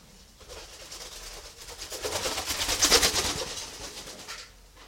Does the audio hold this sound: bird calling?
yes